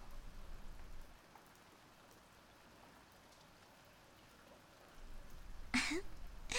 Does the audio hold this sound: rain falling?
yes